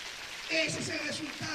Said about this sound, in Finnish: Oikein kunnon aplodit Kristukselle.